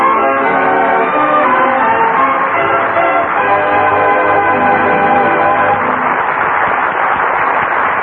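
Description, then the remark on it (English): Wedding bells peal steadily and loudly, several tones overlapping in a dense, continuous ringing wash that fills the whole stretch, with no voices. “June, the month of brides and wedding bells, and of wedding anniversaries, too.”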